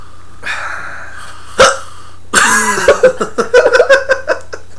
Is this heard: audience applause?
no